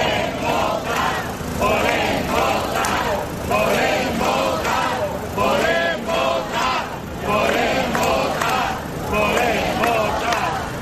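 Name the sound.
crowd shouting protest chants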